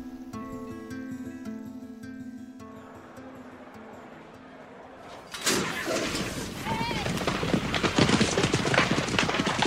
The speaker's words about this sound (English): Nothing runs like a horse. Some animals might run faster, but none run more beautifully. In your imagination, you can see the slow-motion images of the rippling muscles, the pounding hooves, the sunshine reflecting on their gleaming coats.